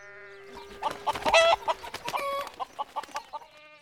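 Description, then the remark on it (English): Several chickens on a farm cluck and squawk in a busy, overlapping flurry, with sharp bursts early on giving way to a steady run of short clucks toward the end. “hear chickens.”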